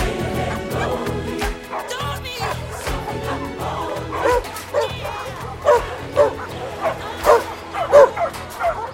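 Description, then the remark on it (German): Several puppies bark and yip in quick, overlapping bursts, fairly loud, with occasional whimpers mixed in amid a busy, lively background, in a play area set up for the puppies. “Ja, und hier haben wir so eine Art Spielplatz für die Welpen eingerichtet.”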